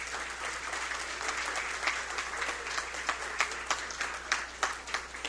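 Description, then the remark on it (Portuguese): An audience applauds steadily, a dense wash of many hands clapping with a few sharper claps standing out toward the end, moderately loud and continuous throughout, welcoming Fritz and Frida at the 36th edition of the Pomeranian festival in Santa Maria. “nós queremos também agradecer de forma muito especial uma marca da festa pomerana e está novamente na 36ª edição deste momento especial de Santa Maria, o Fritz e a Frida, que também poderia se colocar de pé e recebemos com a salva de palmas.”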